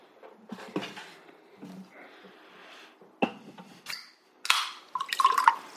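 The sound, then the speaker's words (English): A grapefruit-infused citrus cola being mixed: scattered drips, splashes and light clinks, ending in a brighter burst of fizzy, crackling liquid. No one speaks. “Yeah, I've mixed up my Jordu.”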